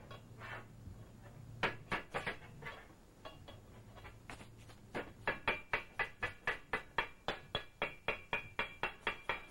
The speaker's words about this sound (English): A bowl of balls in various sizes, textures, and colors sits in front of a young boy. He begins to pick up the balls and bang them against the metal bowl.